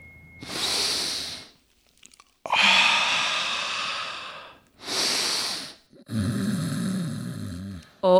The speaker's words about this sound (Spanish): Vamos a practicar ejercicios de relajación. Para iniciar, nos recostamos en el piso y vamos respirando poco a poco.